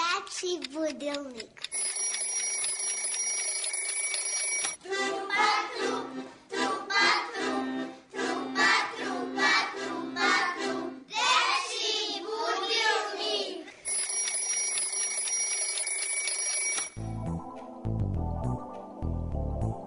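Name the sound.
alarm clock ringing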